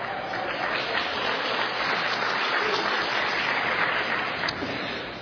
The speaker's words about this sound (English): So I think I should embarrass them and ask them to stand so that you can give them a round of applause. There they are over there.